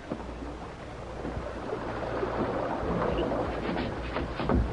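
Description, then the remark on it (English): A waterfall with a large cavern behind it pours steadily, a dense rushing wash of water with a low rumbling undertone that swells slightly midway and continues without pause; no voices. “They slipped through the tinkling waterfall and into the cavern behind it.”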